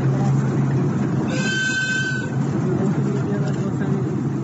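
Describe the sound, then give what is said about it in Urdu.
The first direct cargo train between China and Afghanistan arrives at Hairatan port in Balkh province, Afghanistan, welcomed by a noisy crowd of Afghan officials and children, with a brief, high whistle-like horn sounding over steady rumbling and many voices chattering in the background. “افغان حکام اور بچوں نے ایک ہر دل عزیز مہمان کی طرح اس کارگو ٹرین کا استقبال کیا.”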